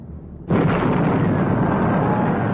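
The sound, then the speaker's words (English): The Hindenburg airship bursts into flames as it lands at its mooring in light rain on arrival in America: a low rumble gives way to an abrupt, loud explosive blast, then a steady, roaring wall of fire that continues unbroken, with no voices. “He burst into flames.”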